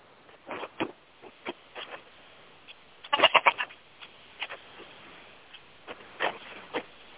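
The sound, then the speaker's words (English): A goat bleats once in a short, wavering burst partway through as it is brought back to its pen, amid scattered quiet clicks and shuffling sounds, with no one talking. “Yeah, I'm bringing back the obstinate goat to the pen, and the puppies have been released from their duty.”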